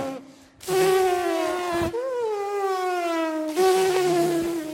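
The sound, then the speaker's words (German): A person buzzes their lips to imitate a Formula 1 car, a loud, steady engine-like drone with rich harmonics, its pitch dipping and sliding across three sustained passes separated by brief breaks. “Also eigentlich musst du einen Formel-1-Wagen nachmachen. Wie ein Formel-1-Auto.”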